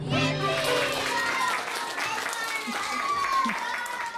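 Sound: applause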